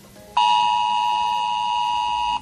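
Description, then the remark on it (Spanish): A civil protection emergency alert tone, as tested by the Dirección General de Protección Civil, warning of emergencies such as a fire or extreme heat: one loud, steady electronic tone with a buzzy, mid-high pitch, holding unchanged for about two seconds before cutting off abruptly, with no voices. “Bueno, cualquier cosa puede significar el recibir un sonido como este.”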